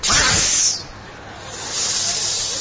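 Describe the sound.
A crowd of people hiss together, imitating hundreds of snakes: a loud, breathy burst that fades briefly and then swells again as everyone keeps hissing louder.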